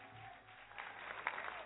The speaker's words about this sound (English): Let's give him a clap offering.